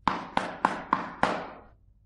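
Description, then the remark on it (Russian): Five sharp knocks on the wooden door of a grandmother's little house, fairly loud, in a steady rhythm with a slightly longer pause before the last. Each rap rings out briefly with a hollow, resonant tail. “Не успела она еще до мельницы дойти, а волк уже прискакал к бабушкиному домику и постучался в дверь.”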